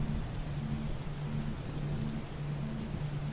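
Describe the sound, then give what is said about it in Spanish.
Steady rain pours down in a dense, continuous hiss during a thunderstorm, with a low rumble of thunder running underneath, no voices present. “Todo eso que hace nuestras vidas limitadas necesita una tormenta que le dé la vuelta a todo, que lo empape.”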